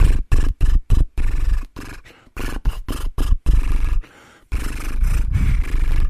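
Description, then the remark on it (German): A buzzing lip trill, the 'horse' lip-flutter vocal warm-up exercise, carried through a melody: a run of short rhythmic bursts, then longer sustained flutters, loud and rough, with no talking. “Und dieses Pferd können wir auch mit einer Melodie machen.”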